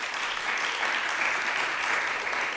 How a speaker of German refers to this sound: Haben gerade alle geklatscht? Wohnen die alle in der Stadt? Ihr seid alle Städtis.